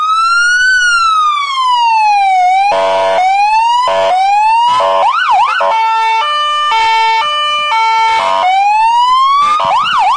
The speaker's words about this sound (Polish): Radiowóz robił furorę, te odgłosy, które dzieciaki bardzo lubią